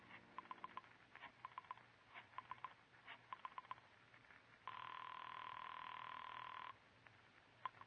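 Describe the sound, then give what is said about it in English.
Rapid bursts of clicking as a telephone number is dialed from an apartment to a private phone at a club, followed by a loud, steady ringing tone for about two seconds, then a few faint clicks. No one speaks. “Once you reach your apartment, you dial Julie's private phone at the club.”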